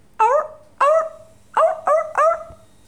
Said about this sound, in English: Seal.